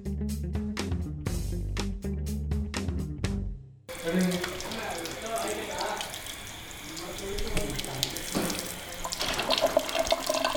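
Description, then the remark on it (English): A short rhythmic musical sting gives way to water running steadily from a tap, splashing as the secretary of the Hindu Association of Northwest Arkansas washes her hands and feet in the entryway of the first Hindu temple in northwest Arkansas, with faint voices in the background. “secretary of the Hindu Association of Northwest Arkansas, or HANWA, washes her hands and feet in the entryway of the first Hindu temple in northwest Arkansas.”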